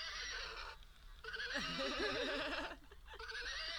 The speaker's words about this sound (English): Here's the horse.